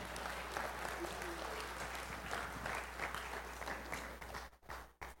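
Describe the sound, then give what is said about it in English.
Sustained applause from an audience for the people who helped, a dense wash of many hands clapping at steady volume before cutting off abruptly near the end. “A little round of applause for the people that helped.”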